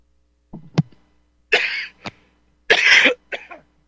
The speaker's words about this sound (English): Getting worked up here, coughing.